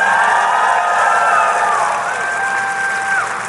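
A crowd cheers loudly with whoops and high shouts over a dense wash of noise, fading slightly toward the end as a few voices hold sustained yells.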